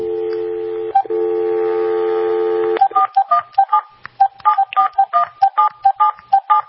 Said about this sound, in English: Believe it or not, the switch, the telephone network switch, you know, we pick up the handset, we go, the connection is made, we get dial tone, I make a call, and, let me just show you what happens. Let me call the bank.